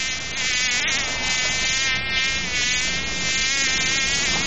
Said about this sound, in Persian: نام ما مگس است. ما بچه گو مگس نواسه خر مگس استم. مدت چند سال میشه که دمی بیلر کسافات زندگی میکنم.